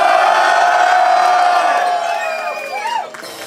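crowd cheering and shouting

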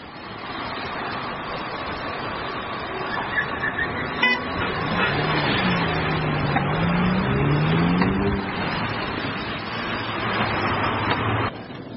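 car driving past

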